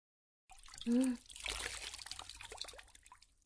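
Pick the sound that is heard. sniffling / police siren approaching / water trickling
water trickling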